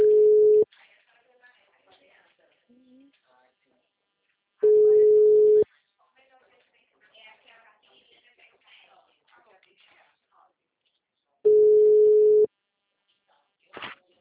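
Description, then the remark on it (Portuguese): A loud, steady telephone busy tone after a dropped phone call sounds in three separate bursts about a second long, with long gaps between them filled by faint, quiet voices and small background noises. “Alô, senhora, ligação caiu.”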